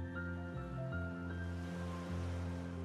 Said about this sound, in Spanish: Puedes escuchar el relajante sonido de las olas del mar.